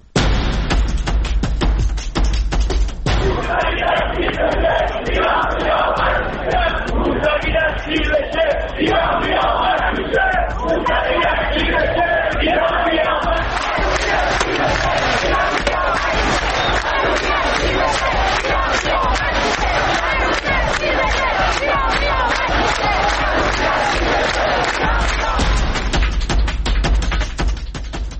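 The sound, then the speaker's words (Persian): A large crowd chants protest slogans loudly in unison in the streets of Iran during the protests of '88 (1388), voices rising and falling in rhythmic shouts that continue steadily throughout, dense, with a roaring street ambience beneath. “پنج سال میگذره از روزهایی که این شعارها در کوچه و خیابان فریاد زده میشد.”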